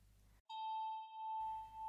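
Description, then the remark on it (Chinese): A single bell chime is struck once to call the listener into a trance during hypnosis, its clear bright tone ringing out and sustaining steadily with a slight wavering pulse. It is fairly loud, with no one speaking. “这是我的钟声，我用它来召唤你进入恍惚的状态。”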